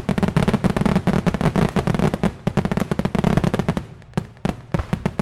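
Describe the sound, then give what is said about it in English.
A .50 caliber machine gun fires rapid, continuous bursts into the sky at Fort MacArthur, mixed with crackling fireworks and much small arms fire, a loud dense barrage that thins into scattered sharp pops near the end. “That's a 50 cal. It's a 50 caliber gun firing off into the sky. And there's some fireworks thrown in there, a lot of small arms fire.”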